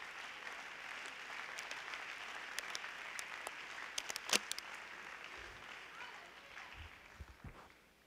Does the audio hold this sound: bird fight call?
no